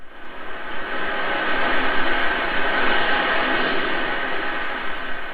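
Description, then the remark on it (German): A steady, dense metallic rustling, like many long threads swishing together, from the costumes of long black threads worn by two performance artists as they move at an exhibition in the Guggenheim museum, fills the space continuously, with no voices. “Zwei Performance-Künstler in Kostümen aus langen schwarzen Fäden, die beim Bewegen ein metallisches Rauschen erzeugen.”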